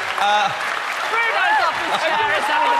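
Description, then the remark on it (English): A studio audience on Strictly, reacting to Bruno Tonioli falling off his chair, applauds steadily for about three seconds, a dense wash of clapping with excited shouts and whoops rising over it. “Listen to the audience, slap it up.”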